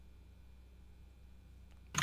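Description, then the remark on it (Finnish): A low, steady hum runs under near-silence, with a faint tick, then one sharp, loud keyboard clack right at the end. No one speaks. “No näppäimistö äänet kuuluu ja nyt kuuluu puheäänikin.”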